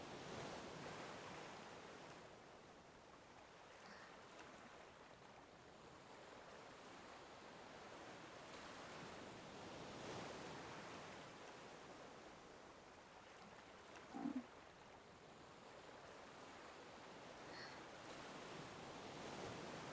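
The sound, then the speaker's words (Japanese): Ocean waves wash onto the shore in a steady, broad hiss, swelling and receding every few seconds, with no voices present. “せっかくここにいるんだから、海の方見なさいよ。”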